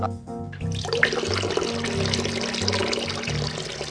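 Water pours steadily for several seconds, a continuous splashing gush that starts after a brief moment of quieter low hum and carries on without pause.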